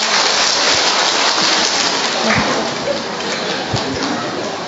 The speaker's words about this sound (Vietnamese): Rồi, cho một tràng pháo tay thưa anh chị em.